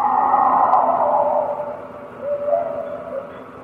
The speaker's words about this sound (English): They begin with this broadband shriek. That narrows down into a tight little kind of a howl ending.